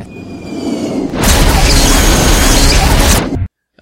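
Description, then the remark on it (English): A plane explodes, heard from inside the plane: a low rumbling hum builds into a sudden, loud roaring blast that holds for about two seconds as a dense, muffled explosion, then cuts abruptly to silence. “Or like a plane exploding, like from like with inside the plane.”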